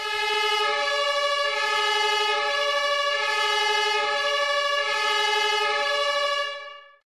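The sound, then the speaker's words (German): Sam's emergency vehicle switches on its siren as it starts driving off: a loud, sustained tone holds a steady, bright pitch with a slight pulsing shimmer for about six seconds, then cuts off. No one speaks. “Und mit dem Losfahren schaltet der Sam auch seine Sirene ein.”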